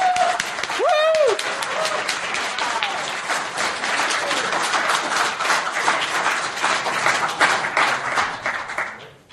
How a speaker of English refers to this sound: And finally, let's get a round of applause for the organizers for everyone who put this together.